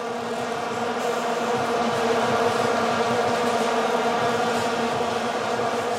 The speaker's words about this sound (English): Ah, the sound of the World Cup in South Africa and those damn vuvuzelas.